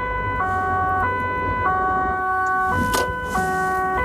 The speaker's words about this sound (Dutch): Doe jij dat ook met je sirene? Zo? Je doet soms een ander geluidje. Met dit kan ik hem versnellen.